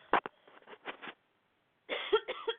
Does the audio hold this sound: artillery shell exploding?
no